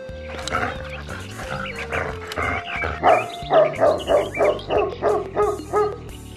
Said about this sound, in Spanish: Entonces, el perro salchicha se metió en su caseta, apretó con una pata el botón de una grabadora y sonó el tremendo ladrido.